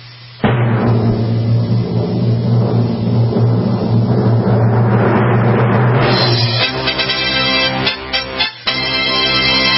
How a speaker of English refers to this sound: And now, for the winner of the 2022 Green Car of the Year Award, let's see if we can find the drum roll.